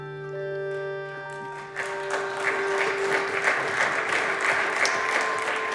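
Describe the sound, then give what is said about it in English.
Bipartisan applause for Mitt Romney breaks out on the Senate floor and builds into sustained clapping from a large group, reverberant, with a steady hum running underneath throughout. “Mitt Romney earned himself a bipartisan round of applause on the Senate floor because he hit on the central dilemma and served up a high-minded illusion of a solution.”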